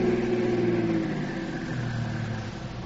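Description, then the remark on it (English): A car engine hums steadily at idle, a low, continuous rumble with a slight downward drift in pitch as the car comes to a stop about half a block away from its destination. No voices. “Now, let's get out of the car and sneak down there, just so we'll be close enough in case we have to go into action.”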